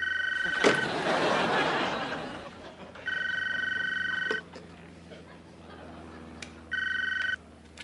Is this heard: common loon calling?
no